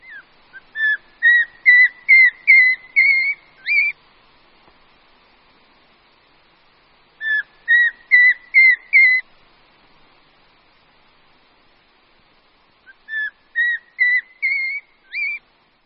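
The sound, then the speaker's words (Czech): Three bursts of short, clear whistled notes from a Eurasian pygmy owl, each series of five to seven tones stepping upward in pitch, separated by quiet pauses, without any talking. “Po celý rok, především pak na podzim, se však kulíšci, samec i samice, ozývají zvláštní, ale typickou řadou stoupajících tónů.”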